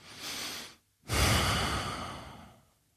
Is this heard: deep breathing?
yes